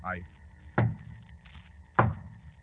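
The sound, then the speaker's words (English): Two solid knocks on a door at midnight, given as a signal that someone has arrived, spaced a little over a second apart, fairly loud, each a single dull thud with quiet in between. “Holmes, the signal. Yes. Two knocks on the door.”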